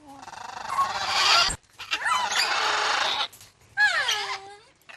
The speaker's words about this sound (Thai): ค่ะวัดคุณซังเปิลยุนโชลิงในเป็นวัดทิเบตในรัฐแมริแลนด์ที่อยู่ห่างจากกรุงวอชิงตันประมาณ50กิโลเมตรนะคะแต่บรรยากาศที่ควรจะเงียบสงบของวัดกลับเต็มไปด้วยเสียงร้องของนกแก้วหลากหลายสายพันธุ์